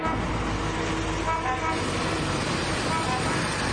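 An ambulance, a police car and a motorcycle arrive amid a loud, steady roar of engines and traffic, with brief horn-like tones sounding through the din.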